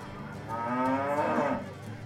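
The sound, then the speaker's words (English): A single drawn-out moo from Holly the cow, fairly loud, rising and swelling in the middle before trailing off, with no talking over it. “I love you too, cow.”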